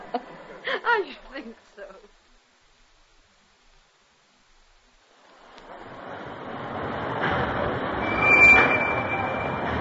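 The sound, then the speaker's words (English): A short stretch of voice gives way to quiet, then a train's broad rumble swells, briefly sharpened by a thin metallic squeal before settling into a steady roar, as the train waits beside the dock at Calais. “Oh, this is our train.”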